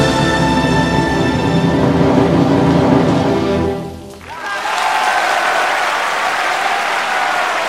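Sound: standing ovation applause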